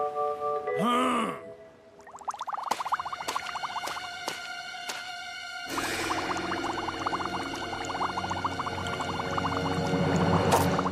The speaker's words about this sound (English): Bubbles burst.